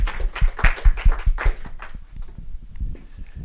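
An audience claps together in a burst of applause for a presenter after a talk, sharp overlapping claps that are loudest at first and then thin out and fade over a couple of seconds.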